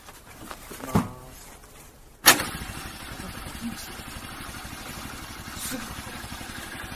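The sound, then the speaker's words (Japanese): A brief cranking sound, then a motorcycle engine is started again after an oil change, catching with a sharp burst and settling into a steady, rumbling idle that continues until the end. “これで、もう一回エンジンかけてください。”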